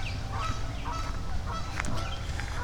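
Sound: geese honking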